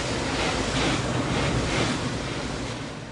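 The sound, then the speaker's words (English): A car wash roars from inside the car: a dense, steady wash of spraying water and whooshing noise, loud throughout with slight surging swells and a gentle fade at the end. No one speaks. “Actually, that was recorded inside a car that's going through a car wash.”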